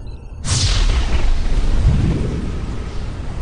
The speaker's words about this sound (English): On the visual, the Harrier's ion cannon began to fire.